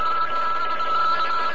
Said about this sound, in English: Telephone's ringing. That's all right, I'll get it.